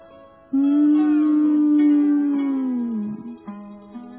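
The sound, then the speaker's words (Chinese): A cow in a stable moos in one long, loud, low drawn-out call that sags in pitch at the end, followed by a couple of shorter, lower grunting moos. “驴子被牛的叫声吵醒了”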